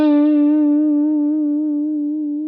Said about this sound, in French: Le vibrato main gauche, le petit signe comme ça, on va vibrer avec la main gauche pour faire vivre la note, pour lui donner davantage de sustain.